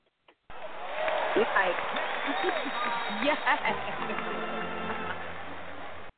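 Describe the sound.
A burst of canned applause, triggered by pressing a clapping button, starts abruptly and carries steadily for several seconds, a dense, even patter of clapping at moderate volume, with voices talking over it.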